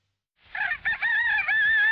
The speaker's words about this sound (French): Le coq, symbole de la France.